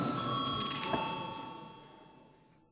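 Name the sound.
parliament chamber bell rung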